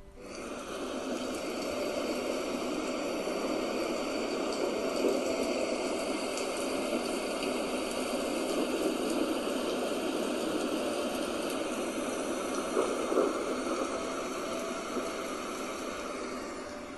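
Steady rain falls in a continuous, even hiss that holds at a moderate level throughout, with no pauses, no voices and only faint, scattered patters within the wash of sound.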